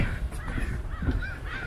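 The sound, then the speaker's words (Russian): Crows cawing in a noisy chorus off to one side, harsh repeated calls overlapping over a steady low outdoor rumble, fairly faint. “Ну это вороны вообще-то.”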